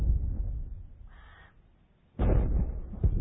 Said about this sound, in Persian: حیوانات صدای وحشتناک شلیک توپی را از سمت ساختمان شنیدند.